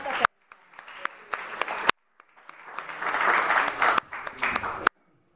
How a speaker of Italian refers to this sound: lo veramente accogliamo con un applauso per il direttore.